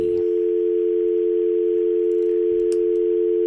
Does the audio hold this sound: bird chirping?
no